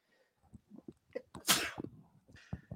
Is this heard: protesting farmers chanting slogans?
no